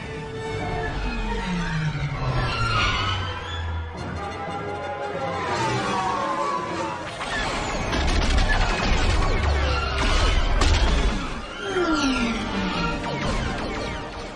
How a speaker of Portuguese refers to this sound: Nave com ronco de motor, mísseis atirando, naves explodindo, o seu dedo dando cãibra de tanto apertar o botão do videogame.